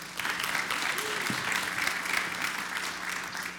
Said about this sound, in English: Can you guys give a round of applause for them?